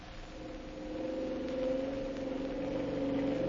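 A police motor boat engine runs steadily with a low, droning hum and a faint whine as the boat heads for the Dawson landing past Moosehide Mountain, swelling slightly louder after the first second and then holding even, with no voices.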